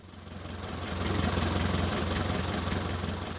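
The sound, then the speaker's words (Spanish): An old car engine idles steadily, a low rumbling drone with a faint rough knock, holding a constant level throughout with no voices. “Al día siguiente, fue al pueblo en su viejo coche, con el maletero lleno de cajas de frutos de zapato.”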